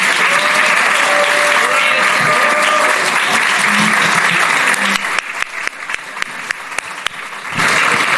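An audience claps in a steady, dense wash of applause that thins into scattered individual claps around the middle, then swells back to full clapping at the end.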